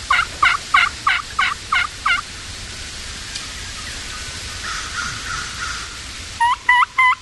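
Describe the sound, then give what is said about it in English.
On a windy morning, a wild turkey hen that has come in and flown up onto a tree limb gives a run of kee-kee whistles, about seven rising, piping notes in a steady rhythm, then a quieter stretch with faint calls before three more sharp whistles end it. “That's a kiki. That's a crow. Or vulgar on a call. That's a hen that came in and flew up on a limb to see where the calling was coming from.”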